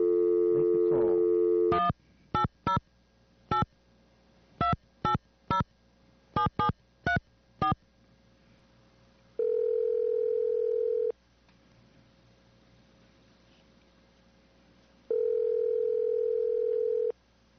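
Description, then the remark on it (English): A steady dial tone gives way to a quick series of keypad beeps as a radio station in Watsonville, California dials George Kahumoku Jr. on Maui, followed by two long ringback tones with a pause between them, heard clearly with no voices. “And we're going to try to get George Kahumoku Jr. on the phone and have a little bit of an interview with him.”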